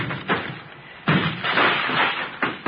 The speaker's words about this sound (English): Yeah, Lieutenant. Breaking down the door.